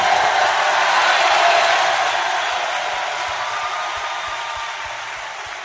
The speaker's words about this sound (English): Now give the Lord a big hand clap. И воздайте Богу великие аплодисменты.